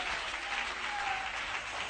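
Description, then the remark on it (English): Many hands clapping together in a dense, continuous burst of applause, steady and fairly loud throughout, with no clear individual beats and no speech over it. “You can clap your hands.”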